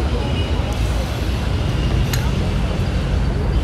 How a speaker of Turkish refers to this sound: Şimdi yine bir iki otobüs sesleri duyuyorum ama burada durup durmayacağını bilmiyorum. Evet, direkt arkadaşlar otobüsler gelip bizim yanımızdan.